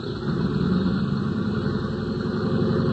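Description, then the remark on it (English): A big plane's engines warm up for a trip to Dallas: a steady, heavy engine drone rumbles continuously at an even level, a low idling roar with no breaks. No voices are heard. “The passenger door was closed, and the big plane's engines were warming up for the trip to Dallas.”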